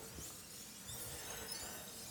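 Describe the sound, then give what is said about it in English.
Alcohol being poured into a glass, recorded with a microphone held over the glass: a steady stream of splashing and fizzing that runs continuously at an even level, quiet overall, with no voices. “And the thing that he did was pour some alcohol into a glass and hold the microphone over the glass to record the sound of the liquid.”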